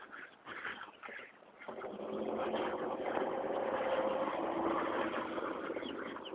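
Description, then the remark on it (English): A four-wheeled mobility scooter with a small plastic beach bag on the front, ridden by an older woman in an orange parka and a bicycle helmet, rumbles past, a steady motor whir with low, uneven thumping that rises and then holds, with no voices. “That thump thump noise was a lady on a scooter. A four-wheeled scooter with a little plastic like beach bag on the front of it.”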